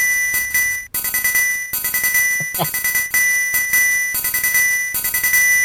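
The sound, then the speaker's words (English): A coral triangle rings a single bright, shimmering note, struck in quick repeated bursts with a few short breaks, loud with no voices. “It's an instrument that is only able to play one note. Coral triangle.”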